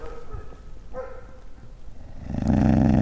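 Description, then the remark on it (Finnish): Many dogs growl and let out short barks during the autumn holidays, a few brief vocal bursts early on, then a louder, rougher stretch of growling and barking near the end, with no talking. “Täällä on lukuisia koiria varsinkin nyt syyslomien aikana.”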